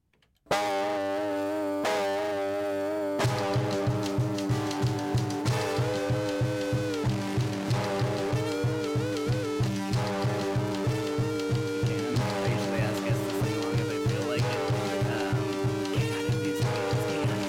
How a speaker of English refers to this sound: Here's the theme song. I hope you enjoy it.